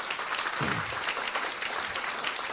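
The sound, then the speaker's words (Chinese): A crowd claps steadily to give glory to God, in a dense, even wash of overlapping handclaps with no clear rhythm, moderately loud throughout, no one speaking over it. “我们拍手将荣耀归给神，哈利路亚。”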